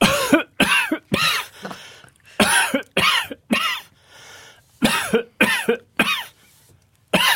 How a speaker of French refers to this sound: Entraînez-vous à tousser, oui. Depuis combien de temps avez-vous attrapé cette toux?